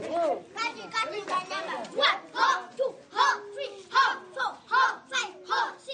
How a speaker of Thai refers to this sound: เสียงเด็กๆฝึกกังฟูกันที่โรงเรียนแห่งหนึ่งไม่ไกลจากกรุงคัมพาลา